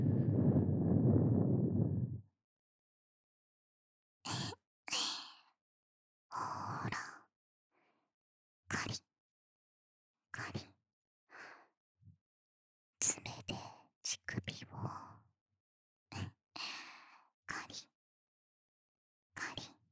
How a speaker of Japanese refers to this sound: 耳にかかるイブの吐息